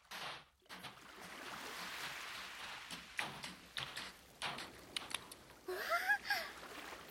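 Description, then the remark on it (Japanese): Soft waves wash in and out along the water's edge of a sandy beach, a steady hiss broken by small splashy surges that swell and fade, with a brief high squeaky chirp near the end. “波打ち際って波が足の裏の砂をさらっていって、なんかくすぐったくない？”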